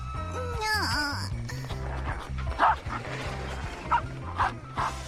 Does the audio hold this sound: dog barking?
yes